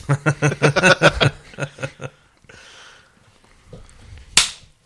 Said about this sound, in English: Ouch. It was a high five.